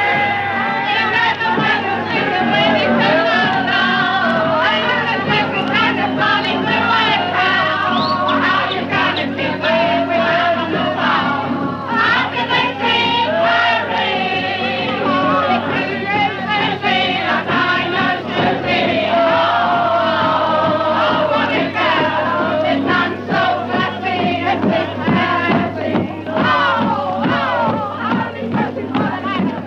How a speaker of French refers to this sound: chacun boit dans la rue sa pinte ou son verre de whisky à la main. Au coin de chaque rue, des chœurs spontanément s'organisent, et si les fausses notes sont nombreuses, l'entrain et la joie entraînent la foule houleuse.